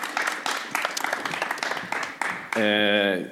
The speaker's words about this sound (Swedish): Vi kanske inte kan övertala dem för en applåd, men vi kan övertala ni som är här för en applåd för Bertil i alla fall, för han skötte sig så bra.